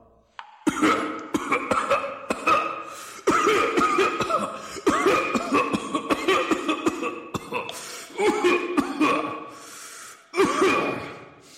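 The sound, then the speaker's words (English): A person has a long, hacking coughing fit, harsh repeated coughs coming in rapid clusters with wheezing gasps between them, loud for over ten seconds without any speech. “…, how long have you had the cough?”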